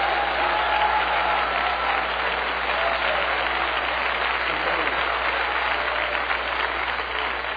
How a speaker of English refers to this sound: Clap your hands and shout unto Jesus Christ.